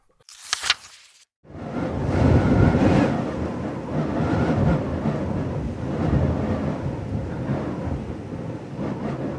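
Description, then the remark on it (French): A brief sharp burst, a moment of quiet, then a heavy storm sets in outside a refuge, where it has probably been raging for several hours: deep rolling thunder rumbles on loudly with gusting wind and a constant rushing roar, no voices. “Une tempête s'active dehors depuis sans doute plusieurs heures.”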